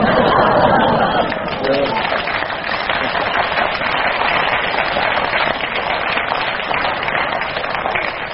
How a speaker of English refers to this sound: Long applause for that one.